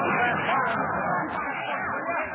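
A dense crowd of passengers chatter all at once aboard a crowded streetcar, overlapping voices forming a steady murmur with no single speaker standing out.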